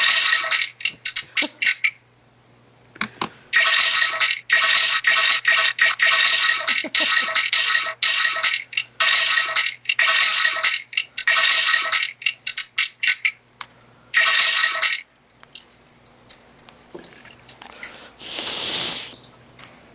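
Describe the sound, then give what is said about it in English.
Loud rushing water like a waterfall, a broad hissing roar that comes in choppy bursts with brief gaps. No voices are heard. “Do you want to play a little more waterfall while I show the waterfall?”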